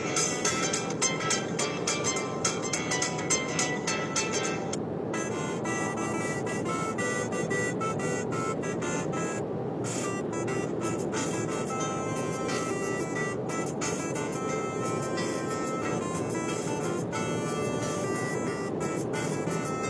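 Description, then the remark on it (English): A default phone alarm tone plays on its own, a dense, continuous electronic melody of bright, ringing notes that holds a steady loudness for the full twenty seconds. “This is my alarm. When I set alarms on my phone, which is not very often, that's the default for that.”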